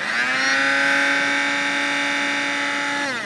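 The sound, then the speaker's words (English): An industrial-sized coffee grinder grinds chopped, dried cranberries into powder, with a loud, steady, high-pitched motor whine and buzzing overtones, holding one pitch before briefly winding down at the end. No voices are heard. “He's got an industrial-sized coffee grinder.”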